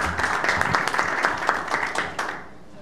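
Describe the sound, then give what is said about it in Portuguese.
A round of applause from a group at a Senate committee session, dense overlapping claps at a steady moderate loudness that taper off and fade toward the end, with no talking over it. “E vou dar uma salva de palmas antes de Vossa Excelência falar.”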